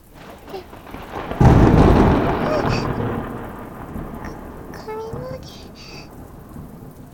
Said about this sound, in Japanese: 雷に怯えるとか、子供みたいなんて言わないでくださいよ。大きな音は昔のこと思い出してしまって